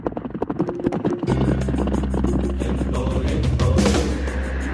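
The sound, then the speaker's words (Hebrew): A helicopter roars loud overhead, its rapid rhythmic rotor chop quickly swelling into a heavy, steady low drone that fills the rest of the moment. “למה יש לנו רעש מסוק באוויר?”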